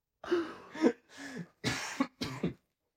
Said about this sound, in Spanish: llegué con una puta tos de ese viaje. Estaba muy enfermo.